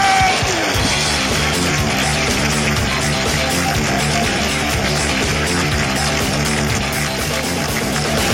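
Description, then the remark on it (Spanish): A loud, steady wash of audience applause with whoops and yells mixed in at the improvised comedy show Hablando Huevadas, sustained at full intensity for the whole stretch without dropping off. “Y que siga el aplauso, que siga.”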